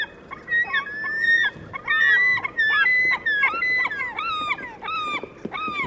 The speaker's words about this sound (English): The cries of these slaty-backed gulls in Japan are like what many of us might consider the iconic sound of gulls on a seashore.